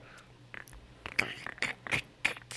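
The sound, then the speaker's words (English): People try to imitate a platypus growl into a microphone with a series of short, raspy, throaty bursts, about six in irregular succession, harsh and hissy rather than deep, with brief gaps between them. “I can't even make the platypus noise, or I would.”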